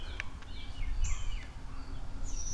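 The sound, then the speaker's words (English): Faint, high-pitched squeaky calls from a baby owl called Squee, a few thin squeals and short chirps scattered over a low outdoor rumble, with no talking; the mother owl is not hooting. “He just keeps squeeing and Mama doesn't want to say anything.”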